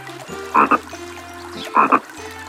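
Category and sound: animal, frog croaking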